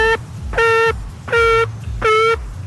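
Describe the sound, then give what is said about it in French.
A voice imitates a phone ringtone with four buzzy, steady-pitched beeps in an even on-off rhythm, each lasting about a third of a second, over a low background rumble. “J'avais avec la bouche parce que j'ai plus assez d'argent pour être une vraie sonnerie.”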